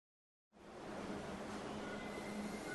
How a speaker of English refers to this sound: Hi, I'm at the subway station. Where are you?